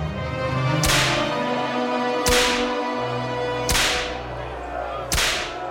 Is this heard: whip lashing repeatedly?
yes